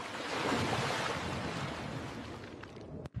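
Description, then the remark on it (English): A broad, continuous roar of surging water, like ocean waves rushing and churning together as waters gather into a sea, loud, easing off near the end with a brief sharp splash. “Okay, waters, gather together.”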